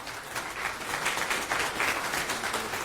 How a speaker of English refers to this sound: So as we get these slides up here, let's go ahead and give him a warm round of applause, everyone.